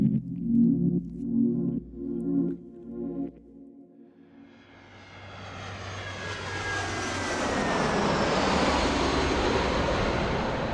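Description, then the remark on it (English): An airplane engine throbs low at first, then spools up into a loud, steady roar with a rising whine that swells and holds, enveloping, with no one speaking. The plane is bound for Thailand. “So before Jakob can meet with the buyers, Amaryllis gets on a plane for Thailand to intercept him.”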